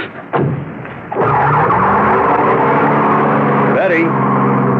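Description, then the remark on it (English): A car engine roars loudly as the vehicle accelerates away hard, its pitch climbing, with a screeching skid of tires mixed into the rising engine noise. “And if that was her pulling away in a cloud of dust, why the heck would she stand me up?”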